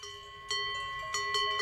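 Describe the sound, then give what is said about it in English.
Metallic cowbells hung on cows clank as a cow comes along, in a loose, irregular rhythm, four or so bright strikes over a sustained ringing hum of overlapping bell tones, with no voices present. “I know from each cow the bell.”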